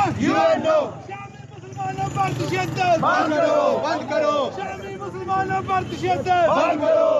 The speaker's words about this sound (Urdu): انہوں نے اقوام متحدہ, اسلامی ممالک کی تنظیم OIC اور یورپی یونین کی طرف سے بمباری رکوانے کے لیے مبینہ طور پر کردار ادا نہ کرنے کے خلاف نعرے لگائے.